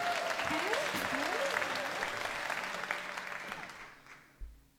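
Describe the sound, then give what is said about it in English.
An audience at a live music performance applauds in a dense, steady wash of clapping that holds for a few seconds, then thins and fades away, with a faint voice murmuring underneath. “I don't know if you like to clap solos, but you're going to get an opportunity to do so.”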